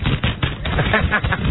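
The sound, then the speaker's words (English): Loud, continuous crinkling and crackling of a large fax being rustled, a dense run of sharp rough bursts with no one speaking over it. “Rustling the fax so you know that it's here.”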